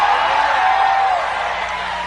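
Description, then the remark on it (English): A large crowd screams and cheers in a sustained, loud wash of voices after being told to hold up their hands and scream, with scattered whoops rising above the dense noise before it gradually eases off. “Now really scream like you believe you're righteous.”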